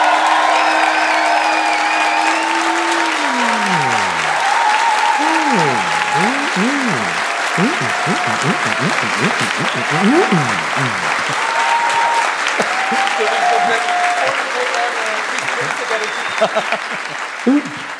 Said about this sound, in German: Und jetzt also erstmal euer Applaus